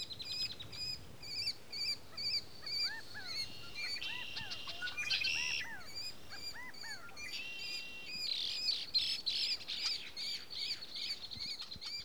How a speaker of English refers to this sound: Near the pond, there's a constant thrum of calls from red-winged blackbirds, California quail, mallard ducks, ravens, kestrels, geese, and more.